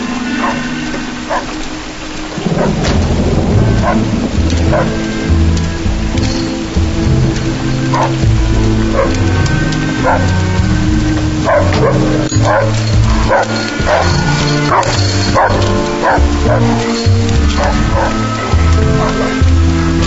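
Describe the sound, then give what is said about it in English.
A dog, out and running around, barks repeatedly and loudly in a steady, excited series, with a continuous patter like rain on a surface running underneath. “The dog's out. It's gone. Well, it's out running around.”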